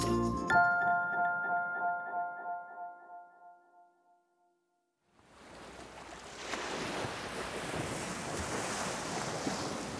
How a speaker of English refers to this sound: We're at the beach. Wow, look at those ocean waves. I love how the ocean looks like it can go on forever.